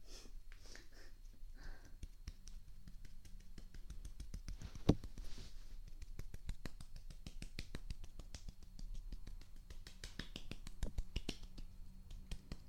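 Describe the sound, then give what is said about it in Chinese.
A steady run of soft, quick hand claps or pats, fairly quiet, repeating many times in an uneven rhythm with no voices. “对，就是这样子，放轻松，拍拍手。加手指”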